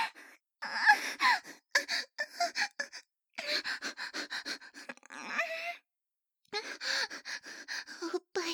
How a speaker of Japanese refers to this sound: 静かみにして、もんじゃって、すっごい興奮した吐息。